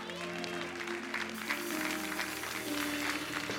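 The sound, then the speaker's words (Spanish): An audience claps steadily for a few seconds, a dense patter of many hands at even loudness, with a sustained low musical tone holding underneath. “Tres aplausos y de este lado ni uno.”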